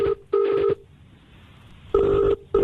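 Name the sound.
telephone call ringing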